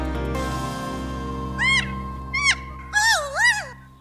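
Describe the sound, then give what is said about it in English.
Laugh-like calls of kea parrots from New Zealand: four bright, high-pitched warbling cries, the first two short and sliding, the last two longer and wavering, over a steady low hum. “These are the laugh-like calls of kea parrots from New Zealand.”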